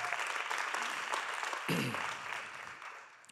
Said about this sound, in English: Oh, by faith, you can just go ahead and wave it or give God a clap offering in advance because he's going to bring it.